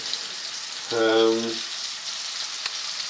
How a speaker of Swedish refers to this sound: Så, nu lägger vi in dem i, lägger vi in bullarna här i stekpannan. Ja. Och det är mycket fett. Det är väldigt mycket smör. Men du, det är, men det är nästan som skum av allt smör.